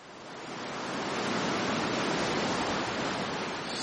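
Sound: sea waves and surf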